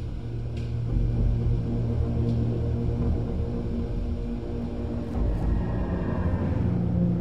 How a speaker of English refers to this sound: Outside, Renee stands at the railing on an elevated walkway. A car pulls up below, and Casper gets out.